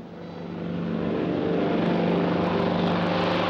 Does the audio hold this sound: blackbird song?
no